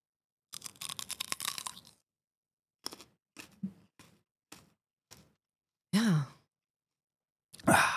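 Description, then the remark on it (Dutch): Crisp crunching as someone bites into a thick green chili pepper, followed by a few separate crunchy chews, then two loud, breathy sighs or gasps near the end. No one speaks. “Oké, ik ga deze dikke groene peper pakken, want je hebt die vraag eerlijk beantwoord. En terwijl ik een hap neem, mag je alvast nadenken over de volgende vragen.”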